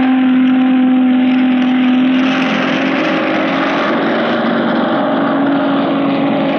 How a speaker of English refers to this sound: And now, from the roof of the control tower, some new sounds out of the sky. Sounds of planes which most of you have not had a chance of seeing or hearing. And first, the biggest helicopter in the world, the 24-seater Sierva Air Horse.